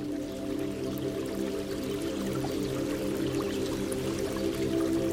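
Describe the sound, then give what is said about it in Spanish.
A small stream in a forest trickles and babbles steadily, a continuous moderate wash of flowing sound with no voices and no breaks. “Que tal vez habría que fluir igual que lo hace el agua de aquel riachuelo.”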